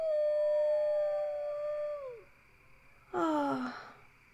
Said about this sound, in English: And I hear others howling too.